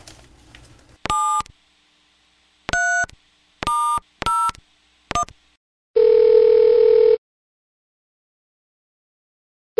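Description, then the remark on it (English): A telephone call being placed: about five short electronic dialing beeps at uneven intervals, then a steady, clear tone holding for roughly a second before the line goes silent. “Okay, gotta pick up the phone here.”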